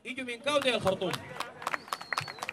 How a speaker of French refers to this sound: Rire, applaudissements à tout rompre, le public est conquis par ce film d'auteur et interdit sous l'ancien régime parce qu'il montre la guerre menée dans une des régions les plus pauvres et marginalisées du Soudan.